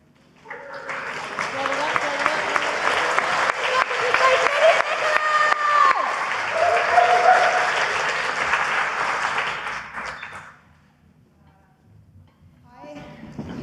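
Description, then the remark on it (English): An audience breaks into steady applause for the next act being introduced on stage, a dense wash of clapping that holds strong for about ten seconds, fades out, then a brief new burst of clapping starts at the end. “Start the applause.”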